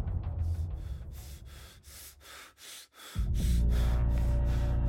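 A string of ragged, rapid gasps, about eight breathy bursts in quick rhythm, close and fairly loud, before a deep sustained drone rises and carries on to the end.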